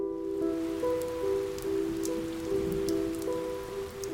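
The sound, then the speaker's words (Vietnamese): Steady rain falls on a cold night in a continuous hiss with scattered sharp drops, layered under soft, sustained musical tones that shift slowly; no one speaks. “Một đêm mưa lạnh, Miện lẩn ra bến Trầm.”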